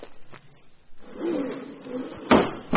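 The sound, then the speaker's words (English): A kitchen door opens with a low, drawn-out creak, followed by a sharp wooden knock or bump near the end, heard alone without any talking, as a grocery delivery arrives. “There's someone at the kitchen door.”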